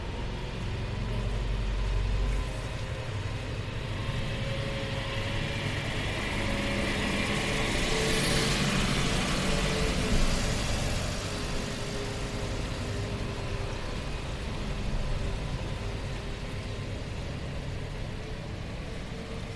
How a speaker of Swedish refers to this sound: Nu kommer det naturligtvis den där lastbilen igen. Jag kanske ska göra så att jag väntar tills den är förbi.